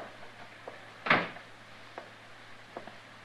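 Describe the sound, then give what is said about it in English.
A door thuds shut once with a short, solid knock, surrounded by a few faint clicks and light shuffling amid otherwise quiet surroundings. “You men stay outside and close that door.”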